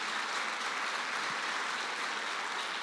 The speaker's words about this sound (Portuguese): Aplauda Jesus, é para ele.